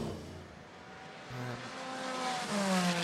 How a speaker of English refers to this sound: So let's get the cars out on the track. Remember, they don't join at the end of the pit lane.